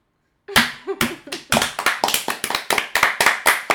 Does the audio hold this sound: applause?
yes